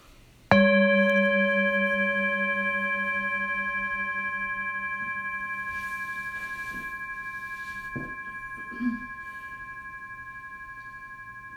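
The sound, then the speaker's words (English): A single meditation bell is struck once to start a meditation, ringing out with bright layered overtones and a gently pulsing low tone, then slowly fading over about eleven seconds with no talking. “And for the meditation, I'll start and end with the bell.”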